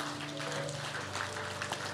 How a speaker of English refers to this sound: Those people that have raised their hands, can we give them a clap for their courage in doing that today?